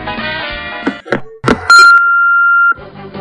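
A steady, loud, high-pitched voicemail beep holds for about a second, following a few quick knocks and clunks, with tonal music-like sound before and after it.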